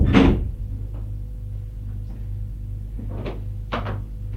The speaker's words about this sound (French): Elle entre. Il ferme la porte.